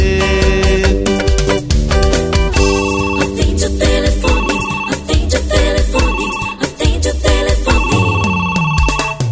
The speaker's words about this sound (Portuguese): Meu telefone que não para de tocar, já não consigo mais ouvir você falar.